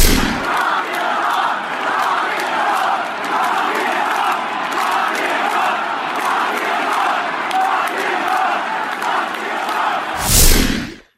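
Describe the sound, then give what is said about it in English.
A huge baseball crowd in Washington, D.C., at World Series Game 5 against the Astros chants in unison as President Trump takes his seat, a dense, roaring wall of voices sustained for about ten seconds with rhythmic pulses, then cut off abruptly after a brief louder swell. “President Trump took his seat to thundering boos, of course, and this chant from the liberal D.C. crowd.”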